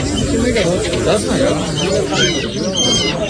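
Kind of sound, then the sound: bird, pigeons cooing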